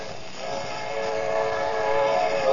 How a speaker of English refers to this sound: Now be careful, Colonna. There's a train coming.